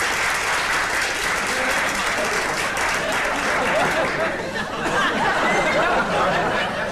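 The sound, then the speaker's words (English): A crowd at a school lecture applauds steadily for about seven seconds to welcome a polar explorer guest speaker, a dense, even wash of clapping that stays loud throughout, with faint voices and a little chuckling mixed in. “Applause, applause!”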